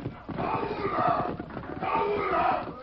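horses' hooves riding away

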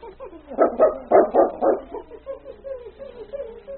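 dog barking

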